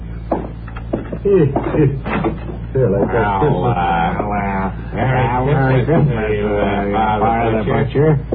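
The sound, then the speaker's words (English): A door clicks and swings open, followed almost at once by several voices talking and greeting one another as visitors arrive for Christmas. “I'll get the door”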